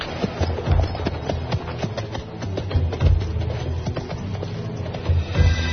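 horse hooves clip-clopping

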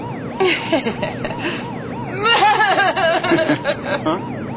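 police car siren

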